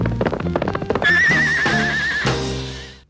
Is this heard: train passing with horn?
no